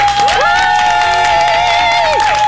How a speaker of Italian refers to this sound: Bravi, fatemi un applauso.